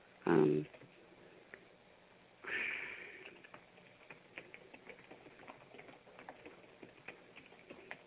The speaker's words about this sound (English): I'm actually trying to type in her email address while I'm on the phone, so I got to do a couple of things at one time. But, again, this is life. Let's see. Just typing in her email address.